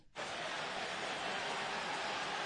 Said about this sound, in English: Well, now it's starting to heat up. And it's back to terrible. They're actually booing the fight. Listen.